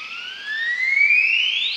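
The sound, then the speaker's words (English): A male Highland Guan's territorial display call, high in the mountains of Chiapas, Mexico: one long, loud whistle that climbs steadily in pitch like a slow siren, with no voices alongside it. “What is making that wonderful sound? High in the mountains of Chiapas, the southernmost state of Mexico, a male Highland Guan is performing his territorial display.”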